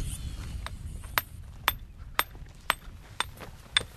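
Sharp metallic taps of a hammer striking a chisel against rock to delicately chip a slim layer off a rough-cut section, about seven evenly spaced blows at a steady rhythm, over a low outdoor rumble, with no talking.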